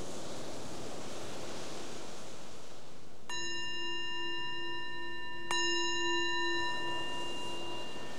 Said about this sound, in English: So the bell is the invitation to bring the awareness back to the surface, to the surroundings